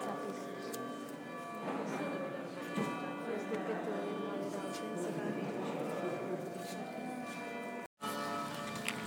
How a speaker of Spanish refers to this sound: Oímos campanas por todas partes, pero no sabemos lo que significa.